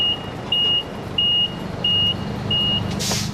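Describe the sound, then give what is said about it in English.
A truck's reversing alarm beeps five times at a steady, even pace, each high tone ringing clearly over the low, constant rumble of an idling engine, as Scott Morrison delivers a boatload of asylum seekers on the back of the truck to the Indonesian embassy. “Our first ever outside broadcast was the time we stumbled upon Scott Morrison as he tried to deliver a boatload of asylum seekers to the Indonesian embassy on the back of a truck.”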